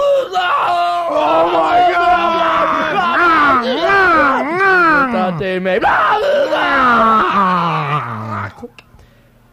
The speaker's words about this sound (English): We have a tape of the contents of the black box from the Egypt Air.